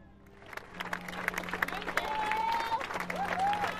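Steady applause from a crowd gathered in the evening at an outdoor vigil after a tragedy, honoring the police and fire crews, a dense patter of many hands clapping that swells and holds, with a few faint voices and whistle-like calls rising through it.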